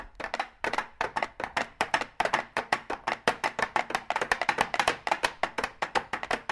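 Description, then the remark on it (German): Rapid, rhythmic clatter of four plastic containers knocked against a tabletop in a steady galloping pattern, imitating a horse's hoofbeats, moderately loud with no talking. “Wir haben 4 Plastikdosen rhythmisch auf den Tisch geklopft.”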